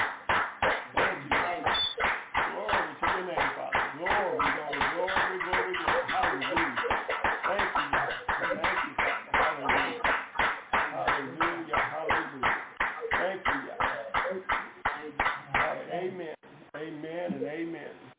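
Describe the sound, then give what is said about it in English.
An audience claps hands in praise of the Most High Elohim at an evening service, a dense, steady stream of sharp claps lasting about sixteen seconds before thinning out and fading into quieter murmuring. “Let us give the Most High Elohim a hand clap of praise on this evening.”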